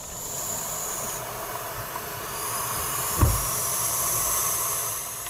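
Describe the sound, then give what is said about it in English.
Five baby owls, pushed up against the back of a nesting box atop a pole in fields, hiss continuously with the mother absent, recorded with the microphone inside the box: a steady breathy rushing noise like a vacuum cleaner, with one brief low thump partway through and no talking. “Inside, five baby owls are pushed up against the back of the box. They make this extraordinary hissing sound, almost like a vacuum cleaner, to try to scare off predators.”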